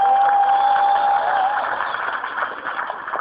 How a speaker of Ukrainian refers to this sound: Отож, у рубриці «Український сучасний театр» очередна постанова «Мати і син». Ваші аплодисменти.